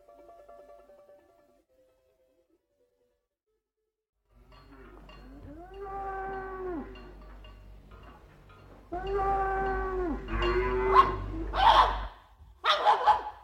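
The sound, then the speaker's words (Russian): A dog barks in a few sharp bursts near the end, mixed in with loud, drawn-out cattle lowing and a low rumbling background. No one speaks. “Убери свою собаку.”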